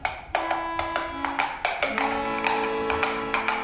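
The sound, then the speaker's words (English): A horse carrying a rider with a boy up behind him is ridden hard: hooves gallop in a steady, quick rhythm of sharp clops, fairly loud, with a sustained tonal backdrop like music underneath. “We rode hard all the way till we came to Dr.”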